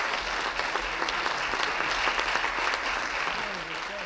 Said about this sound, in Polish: Co tak klaszczesz? Nie ma znowu za co tak klaskać. Ja mam nie klaskać, bo tobie się nie podobało?